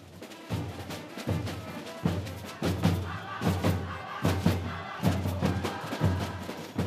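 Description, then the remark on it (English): A loud carnival street band plays in scorching heat in Rio de Janeiro's Lapa district, next to the colonial aqueduct, pounding out a driving, steady drumbeat with heavy low thumps about every second beneath a dense wash of instruments, while a costumed crowd dances amid confetti and adds a constant busy roar. “The band is playing in scorching heat and a crowd is dancing along next to the iconic colonial aqueduct here in Rio's Lapa district.”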